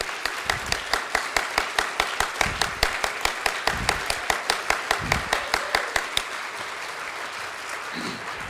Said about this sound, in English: Y'all give him another round of applause.